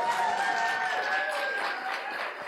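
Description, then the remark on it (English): An audience claps steadily while voices cheer and whoop in loose, slurred approval, a dense wash of applause with wavering vocal tones running through it for the whole stretch. “That was an audience clapping and slurring in approval.”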